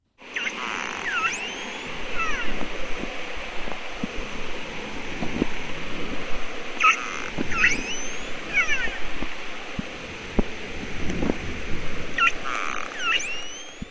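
Shortfin pilot whale squeaks and whistles rise and fall in bursts over a steady hiss of sea noise, with scattered sharp clicks between them; no one speaks.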